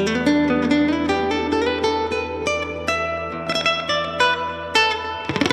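Electric guitar through an amp preset called Heavenly Tweed: notes and chords ring out with a heavy wash of reverb, each note trailing into a long shimmering tail. Clean and fairly loud, with no voices.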